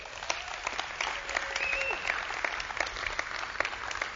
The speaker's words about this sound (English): Thank you very much. You can give them a clap.